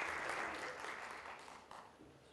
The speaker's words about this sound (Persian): لطفا تشویقش بکنید. لطفا خودتونم تشویق بکنید. خیلی عالی. مرسی.